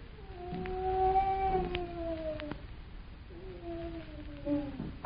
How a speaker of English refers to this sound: Someone's in there. That was a human being moaning.